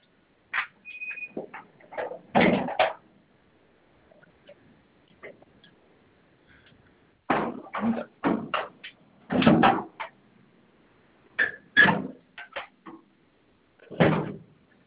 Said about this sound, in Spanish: Cierro la puerta. Sí, tenemos que tener todo cerrado para que nos deje alarmar la unidad.